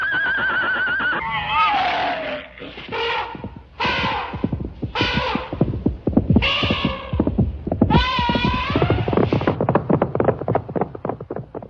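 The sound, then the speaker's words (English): Several horses neigh and whinny in loud, quavering, descending calls that overlap one another, with a steady stream of dull thuds and clatter running underneath throughout. “Give the nice horses some sugar cubes.”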